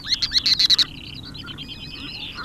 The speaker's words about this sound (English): During times of the day, it can just be a wonderful place to sit and just listen to the sounds of the birds. It sounds like they're having a good party,